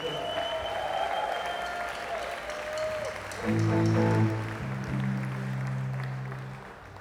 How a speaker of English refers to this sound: And let's give a big round of applause to everyone that played tonight.